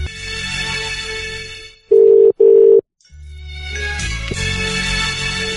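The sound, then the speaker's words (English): A phone line rings out with two short, steady electronic tones in quick succession as a caller retries an unanswered call, loud and clear, set between stretches of busy background music. “We'll try again. They're asleep. Gotta wake them up.”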